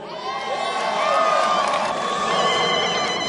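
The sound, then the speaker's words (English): A large crowd at a Barack Obama speech cheers and shouts steadily, with a woman's high, warbling yips rising above the roar in quick, sharp bursts. “See, that was a woman either yipping like a Maasai from Kenya or bleeding like a goat.”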